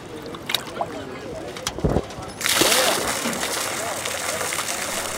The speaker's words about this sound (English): Cray, along with MSU students and staff, tossed buckets filled with jumpy steelhead into the river.